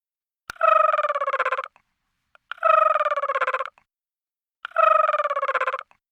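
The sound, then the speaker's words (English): A voice imitates an orange-crowned warbler call with three evenly spaced, rapid buzzing trills, each about a second long, steady and fairly high in pitch, with short silences between them. “I'd like to perform some local bird calls. The elusive orange-crowned warbler.”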